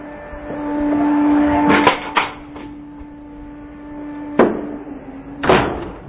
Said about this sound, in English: Okay, so just shut this door.